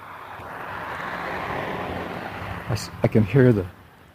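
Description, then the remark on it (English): A steady, broad rumbling wash of distant traffic on the main road, with no wind and no distinct vehicles standing out, followed near the end by a few seconds of a person talking over it. “I can hear the traffic off on the main road.”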